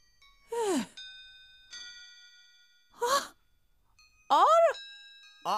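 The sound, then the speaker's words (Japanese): A shop's table clock chimes, its clear bell tones ringing out one after another with long, steady decays, broken up by a few louder sigh-like vocal sounds with sliding pitch. “あれ、この音、お店の置き時計の音だよね。”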